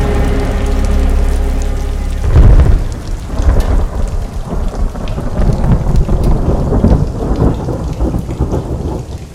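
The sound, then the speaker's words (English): Steady rain spatters down during a nighttime thunderstorm around a dwelling, with a deep rumble of thunder rolling in early and heavy drops pattering irregularly throughout. Fairly loud, with no voices. “As they sleep, spattering rain and flashing lightning leave eerie impressions in the darkness both inside and outside the dwelling.”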